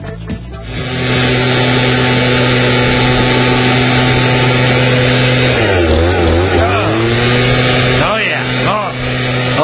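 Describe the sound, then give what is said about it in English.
A two-stroke leaf blower engine runs loud in a steady, buzzing drone in a garage studio at the Auto World Plaza in Boise, Idaho, its pitch sagging and recovering twice near the end as the throttle eases off and revs back up. “Gosh, like I promised, welcome into the leaf-blowing studio.”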